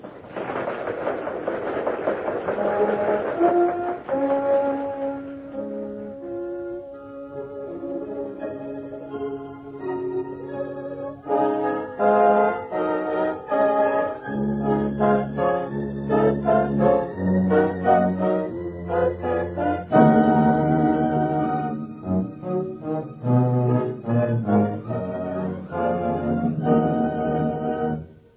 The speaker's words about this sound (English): a short symphonic treatment of the NBC chimes.